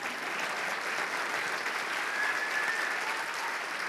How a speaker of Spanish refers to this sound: me gustaría que les dieran un fuerte aplauso a todos los de amarillo